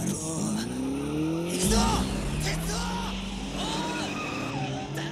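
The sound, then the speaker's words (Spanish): A motorcycle skids to a stop in Kaneda's signature motorcycle slide from Akira: a loud tire screech rises over a whining engine, with shifting pitch sliding through the sound and a steady roar underneath that lasts throughout. “Cuando este derrape que hace con la moto que hace Kaneda.”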